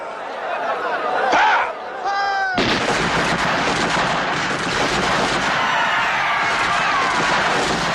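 Voices murmur and a raised cry rings out briefly, then a sudden, loud barrage of rifle fire erupts, dense overlapping cracks rattling continuously without pause to the end.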